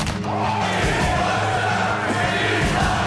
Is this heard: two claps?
yes